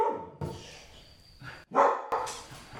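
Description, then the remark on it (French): A dog barks several times in short, irregular bursts, moderately loud, with a steady background hiss between the barks and no one speaking. “En tout cas, le chien était là, lui.”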